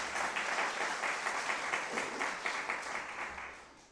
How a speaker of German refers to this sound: Ja, könnt ihr mal einen Applaus.